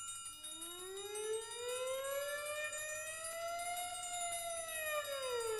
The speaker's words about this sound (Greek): πυροσβεστικές αντλίες ακούω. Τι συμβαίνει?